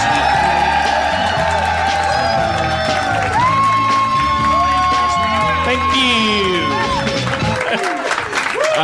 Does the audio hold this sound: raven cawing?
no